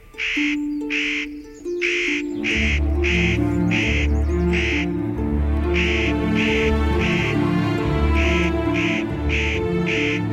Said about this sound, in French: Ici, si on a ces pins cimbreaux, c'est qu'on a le casse-noix moucheté. Ah, ce petit corvidé, brun, avec des petites plumes blanches, au bec très puissant.